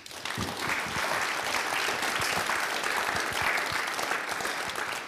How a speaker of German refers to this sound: Es freut mich riesig, dass du da bist und du hast jetzt schon einen kleinen Applaus verdient.